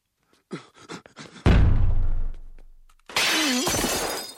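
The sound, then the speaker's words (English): Breakaway glass smashes in one loud crash, its shards ringing and clattering for over a second, after a few quick, sharp bursts. A dense, rushing noise with a wavering tone follows. “My only regret, I didn't get to jump through the breakaway glass I had installed.”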